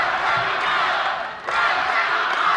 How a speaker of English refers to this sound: Thompson toyed with the idea for months, promising he'd announce his decision at a tax day Tea Party rally in Madison. The crowd chanted, "Run, Tommy, run!"